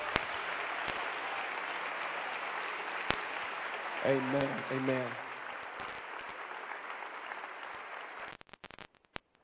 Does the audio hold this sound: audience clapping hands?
yes